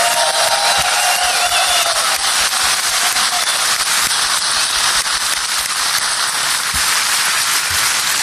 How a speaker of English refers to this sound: So how about just one more time for our court reporter here in PartyTrack, let's make applause show up on that screen.